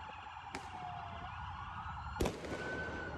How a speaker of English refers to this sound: Last night, I told you about those donuts that were being performed by vandalist drivers, and then the cops show up, and then they start pelting the cops with fireworks. Listen to this. Sounds like Baghdad. Boom.